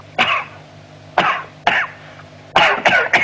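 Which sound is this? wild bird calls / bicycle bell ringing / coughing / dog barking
coughing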